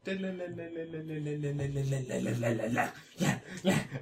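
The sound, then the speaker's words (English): A person gives a harsh, growling imitation of a snarling dog, sustained at first and then breaking into rough, choppy bursts, fairly loud. “You're like a rabid dog. Why was it so aggressive?”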